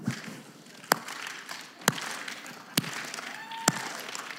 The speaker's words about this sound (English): I would like for us as a community to give them a sarcastic slow clap. Could we do that?